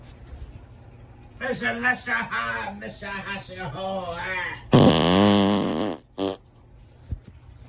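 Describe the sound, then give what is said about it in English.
A voice sings a short, wavering wordless tune, then a loud, drawn-out buzzing fart blares for over a second, followed by a brief second squeak and a faint pop. “Well, obviously it's someone singing and farting and sending us a message.”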